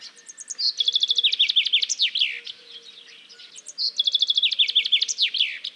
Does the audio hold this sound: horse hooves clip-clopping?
no